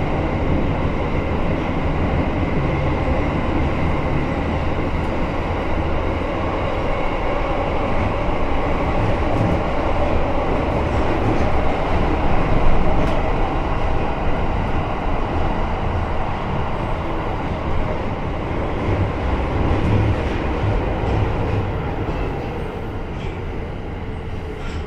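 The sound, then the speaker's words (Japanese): A Tokyo Metro Ginza Line subway train bound for Asakusa, next stopping at Kyobashi, rumbles steadily along the tracks, a loud, continuous low roar with a faint hiss and occasional rattles, heard from inside the car with no one talking. “この列車は浅草行きです。”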